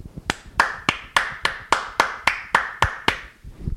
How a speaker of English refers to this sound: Well done, boys. Wait, I've got to put the mic down so I can clap.